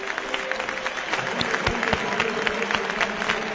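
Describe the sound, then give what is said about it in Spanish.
Elche fans at the Martínez Valero stadium stand and give a sustained ovation to Isco as he is substituted, dense applause filling the air with scattered shouts and whistles rising above it, a continuous roar. “Está aplaudiendo la gente del Elche, ¿eh?”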